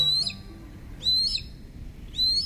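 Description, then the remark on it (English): Three harsh, raspy calls of a Harris's hawk, a raptor of the southwestern United States, evenly spaced about a second apart, each a drawn-out high screech with buzzy overtones, standing out clearly over a low background rumble. “While most raptors are solitary birds, Harris's hawks of the southwestern United States live and hunt in groups of 2 to 6.”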